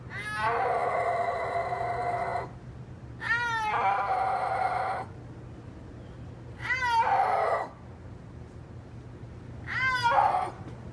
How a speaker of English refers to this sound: You might have learned this as well, but they are the only big cat that cannot roar. So like tigers roar and lions roar, but snow leopards can't roar. They make like a mew kind of yowl sound.